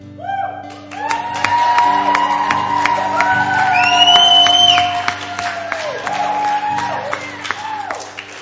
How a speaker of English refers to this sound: Something really cool that just happened right now. The angels in heaven are shouting with the great noise, and so shall we.